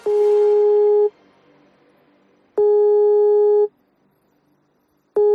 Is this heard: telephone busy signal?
yes